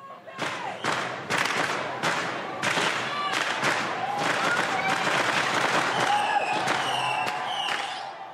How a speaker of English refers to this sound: So let's play, you have sound, yes, of the firecrackers. I want to play just a little bit of that here.